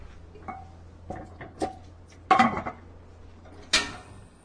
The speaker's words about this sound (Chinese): 那我们先把这一个这个大骨呢，放到这个锅子里面呢去熬煮。好，去熬煮，因为我们要把它的味道都释放出来，我们再来放这些材料。